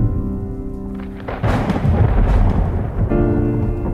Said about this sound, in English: I had just pulled into the parking lot of my Houston synagogue with my 4-year-old and my 2-year-old sons in the car. It had been a beautiful late summer day up until that point, when the sky just opened up and the storm just came out of nowhere.